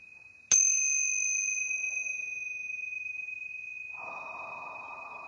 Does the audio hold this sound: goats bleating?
no